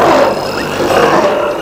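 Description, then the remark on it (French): A loud, rough tiger roar rumbles continuously for under two seconds, forceful, with a gritty, snarling texture throughout and no talking. “Mais un tigre sauté sur lui.”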